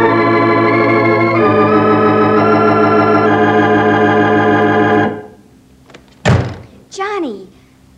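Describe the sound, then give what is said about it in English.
Sustained organ-like music plays, then fades, and a single loud, sharp door slam rings out, quickly followed by a voice starting to speak. “You 100 times not to slam that door.”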